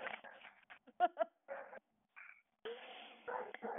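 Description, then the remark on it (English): Dogs play-fighting with each other, with a scrappy run of short growls, snorts and yips coming in uneven bursts, broken by a brief pause before the scuffle picks up again. “My dog's trying to eat each other again.”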